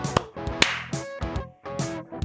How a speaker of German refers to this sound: Wenn du geklatscht hast, dann hat es geklappt.